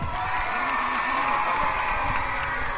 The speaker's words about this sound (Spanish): La agente Moon incluso se ha encargado de izar la bandera de España. Con su perra Moon, ¡fuerte aplauso!